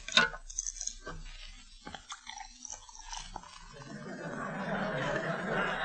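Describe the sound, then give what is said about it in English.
A bottle cap pops off a bottle of cold beer with a few sharp clinks, then the beer pours steadily into a tall glass, the fizzing, foamy rush growing louder and fuller toward the end. “So especially for Sergeant Willie Anderson, please open a bottle of cold beer and pour it into a tall glass."”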